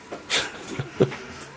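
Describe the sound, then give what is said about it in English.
A cat lets out a couple of short meows, one high and bright, another lower and briefer a moment later. “Our cat's made an appearance, too. He's decided he wants in on this podcast.”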